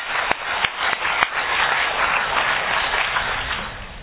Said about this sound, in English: So I think a round of applause to you guys for putting it together.